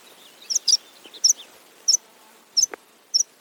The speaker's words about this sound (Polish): Następnie mamy na przykład siwerniaka. Taka śmieszna nazwa.